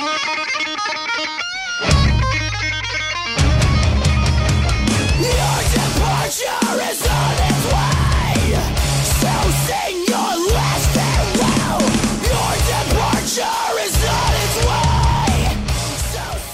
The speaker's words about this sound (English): There are some pretty dynamic guitar parts. Melody and scream patterns are solid. I definitely recommend it.